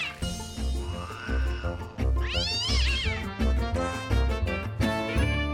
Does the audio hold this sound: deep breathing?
no